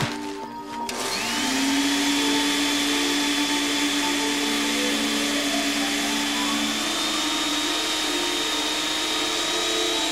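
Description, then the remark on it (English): A vacuum cleaner switches on, quickly spinning up to a loud, steady roar with a high whine that drones on unbroken until the end, with no voices; it is used on stage at the Jim Rose Circus sideshow with BB the Circus Queen and Lifto to demonstrate freeze-dried Siamese twins. “So, with the assistance of BB the Circus Queen and a vacuum cleaner, Lifto and I will demonstrate what freeze-dried Siamese twins must look like.”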